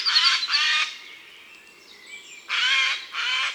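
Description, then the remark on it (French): A Eurasian jay, a pigeon-sized bird with blue wing feathers, gives four loud, harsh screeching calls in two quick pairs separated by a short quiet pause, with faint birdsong in the background. “ça, c'est un jet. Un bel oiseau, gros comme un pigeon, avec de jolies plumes bleues sur les ailes.”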